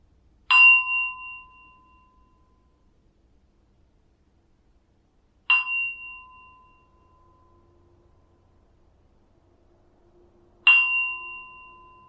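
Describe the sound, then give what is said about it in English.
A clear bell chimes three times, about five seconds apart, each strike ringing out bright and slowly fading into near silence before the next; rung to close a guided relaxation exercise done with eyes closed. “I'm going to ring the bell now for 3 times.”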